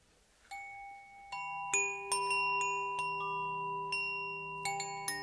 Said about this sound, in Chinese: 那么，首先呢，我会从手摇风铃开始。